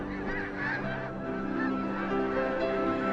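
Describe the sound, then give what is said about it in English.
A flock of migratory birds, like geese, honking and calling over one another in a dense, steady chorus, fairly loud, with no one speaking. “These features of migratory birds are clear proof that it was Allah who created them.”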